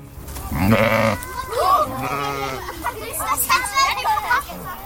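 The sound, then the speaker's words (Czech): Grazing sheep and goats bleat several times in quick succession, their wavering calls fairly loud, with faint voices and children's chatter in the background. “Všimli jste si všichni těch oveček a koz, když jsme přicházeli?”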